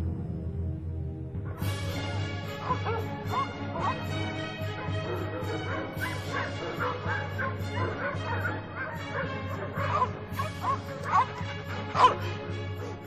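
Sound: dog barking and yipping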